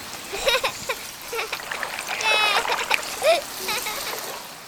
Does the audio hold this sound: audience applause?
no